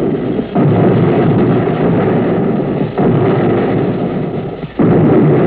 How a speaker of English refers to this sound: You can't feel anything, only see and hear. And you hear the depth charges.